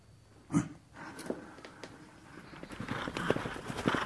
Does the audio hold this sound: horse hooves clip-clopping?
yes